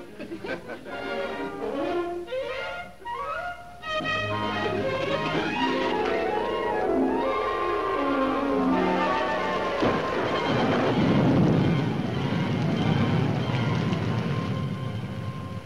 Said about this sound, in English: Sure sounds neat when it rains on a tent, doesn't it, Wally?